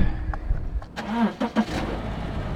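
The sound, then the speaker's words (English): A car engine turns over and starts up, a short mechanical crank followed by a steady low idle rumble with a few sharp clicks. “But to explain all this, I'm going to get my car keys and I'm going to take the podcast on a little road trip here.”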